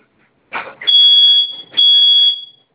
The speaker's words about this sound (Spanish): Ok, esos botones vamos a presionarlos por 5 segundos los dos al mismo tiempo. Okay. Y va a sonar su alarma. ¿Ok?